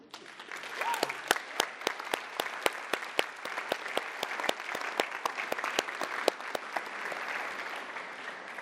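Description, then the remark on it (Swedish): An audience applauds steadily in a reverberant church for the people standing up who were present when the church was inaugurated, many hands clapping together in a dense, sustained burst that carries on for several seconds without voices. “Kan ni ställa er upp? Så kan vi få applådera er.”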